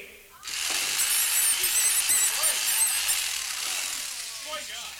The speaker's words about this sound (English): Then Iggy takes a power drill to the bunny.